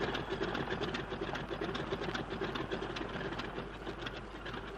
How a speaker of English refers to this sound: Don't waste time revving.